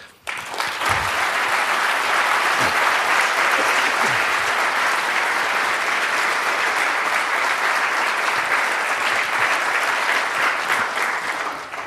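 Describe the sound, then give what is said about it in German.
Sustained audience applause after a lecture, a dense steady wash of many hands clapping at a loud, even level for about twelve seconds, with no voices standing out. “Ich denke, dem Applaus kannst du entnehmen, dass der Vortrag wirklich sehr gut war.”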